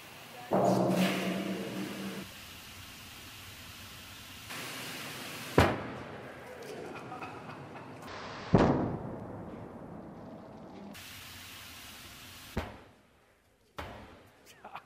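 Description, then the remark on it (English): A sealed, hot-cleaned model tank with improper vacuum relief implodes from vacuum failure during a cold water rinse: steady rushing spray noise broken by sharp, loud metallic bangs, two big ones midway and two smaller pops near the end. “I have it sealed up, and this demonstrates what happens when you have improper vacuum relief. Now we're going to rinse it with cold water and watch what happens.”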